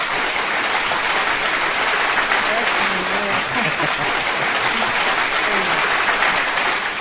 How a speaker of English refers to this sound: Hey, let me give you a clap.